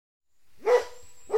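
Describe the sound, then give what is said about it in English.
A dog gives a sharp bark, then a second bark begins right at the end, with a thin high whine lingering between them and no talking. “Mummy, look! A doggy!”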